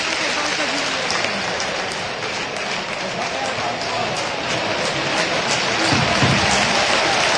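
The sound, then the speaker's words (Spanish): Steady, dense clapping from football fans in a stadium during a match, applauding a recovery of the ball, spread out and continuing throughout with a faint voice talking over it. “Palmas de la afición después de la recuperación del de Férico.”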